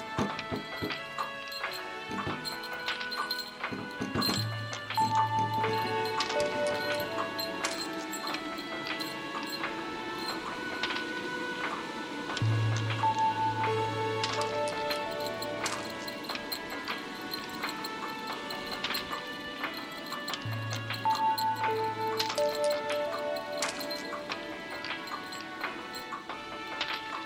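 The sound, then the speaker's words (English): A mechanical clock, its mechanism altered so it chimes at random times and as many times as it wants, ticks with sharp clicks throughout, while short bell-like chime notes and a low humming tone repeat every several seconds. No one speaks. “It's had its mechanism twiddled with to make it a random clock.”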